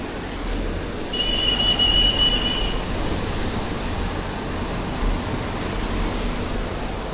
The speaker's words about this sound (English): Even the ocean now starts to become very loud for our listeners. We will just open the door so that you can hear how loud the ocean is.